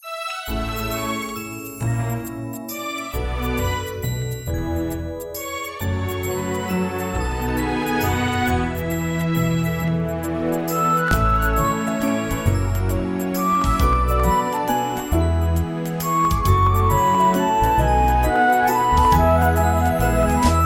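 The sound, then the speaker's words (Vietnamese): A gentle instrumental Christmas carol intro, with bright, ringing chimes sparkling over warm sustained harmonies. The music plays steadily and fairly loud throughout, with no voices. “Và bây giờ là ca khúc Đêm Thánh Tuyệt Vời.”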